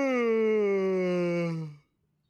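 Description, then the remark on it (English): A single long, voiced yawn that slides slowly downward in pitch for almost two seconds, loud and steady, then cuts off into silence. “You just made me yawn, too.”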